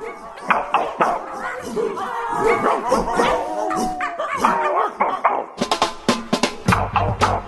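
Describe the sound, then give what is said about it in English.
Several dogs of a specially trained pack bark and yip over one another in a dense, continuous chorus, with occasional whines mixed in. The barking is loud, with sharper, more spaced-out barks toward the end. “Here at Freakonomics Radio, we've given one particularly clever pack of dogs some very specific training.”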